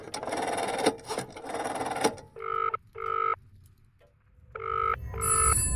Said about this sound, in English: What's that noise? Is that a phone ringing?